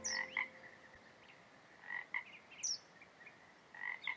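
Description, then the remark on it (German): Moor frogs, which turn blue in mating season, call in soft, repeated bursts across a quiet bog, fairly faint, with a few thin high chirps in between and no voices. “Und da siehst du den blauen Frosch? Die sind nur zur Paarungszeit blau.”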